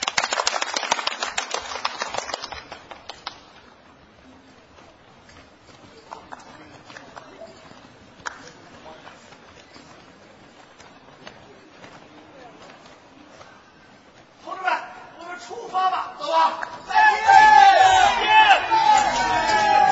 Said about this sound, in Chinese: 下面让我们用热烈的掌声欢送我们这些人民的艺术家。